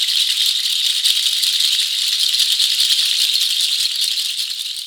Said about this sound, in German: Es tröpfelt. Es tröpfelt. Es regnet.